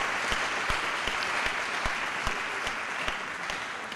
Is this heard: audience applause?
yes